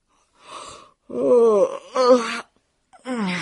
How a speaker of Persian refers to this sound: میشیما خمیازه کشید.